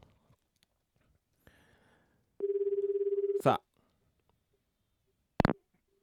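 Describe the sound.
A man speaks a single short word, then a steady, warbling phone ringback tone plays for about a second, followed by loud clicks as the line connects, as he phones a junior colleague during a radio show.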